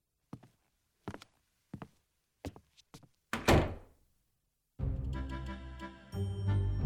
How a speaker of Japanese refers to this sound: 今扉を閉めるから待ってて。